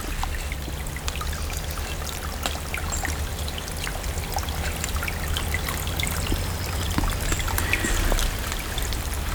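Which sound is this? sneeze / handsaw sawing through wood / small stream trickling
small stream trickling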